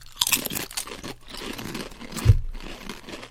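crunching potato chips

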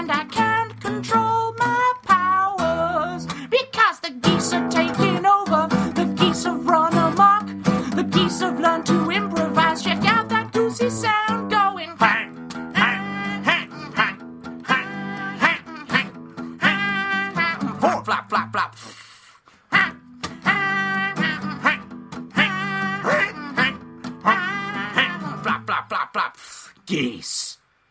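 geese honking

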